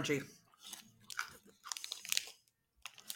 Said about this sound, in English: Not sure you heard that crack. I thought that was my tooth for a second. But I bit into it and like snapped a piece right off into my mouth.